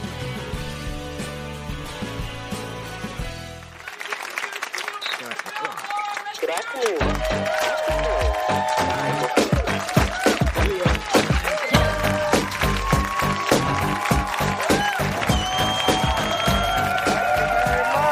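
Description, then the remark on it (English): A few seconds of steady, tonal music give way to a studio audience at a rehearsal of the Real Time monologue breaking into loud, dense applause with some cheering, the clapping building and holding steady to the end. “On a Thursday, boy, when you see how rough and shitty this rehearsal is, you're gonna want to take that applause back.”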